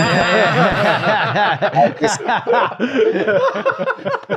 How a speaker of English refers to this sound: this is a bit where you ding the little bell and say, not a parent, I think, mate.